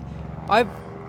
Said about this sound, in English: Just another plane over New York.